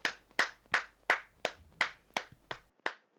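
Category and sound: human body sound, hand clapping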